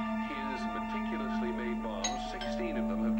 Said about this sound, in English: The doorbell rings.